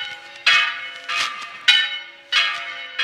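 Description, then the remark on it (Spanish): Church bells of the Diocese of Santander, Spain, ring for the opening of the Holy Year of Liébana (Año Santo Lebaniego) in a steady, overlapping peal, with strikes roughly every half second and long metallic tones hanging between them. No voices are present. “presten atención a estas campanas”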